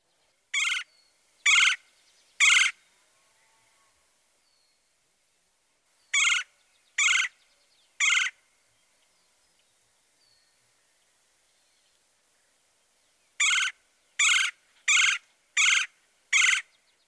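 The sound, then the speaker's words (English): A red-bellied woodpecker gives short, low-pitched rolling chirr calls in spaced bursts, three, then three more, then a quicker run of five, clear with quiet gaps between. “This vocalization sounds more like a low-pitched chirr, chirr, chirr.”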